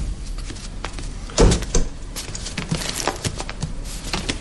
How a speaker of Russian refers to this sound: Дверь закройте.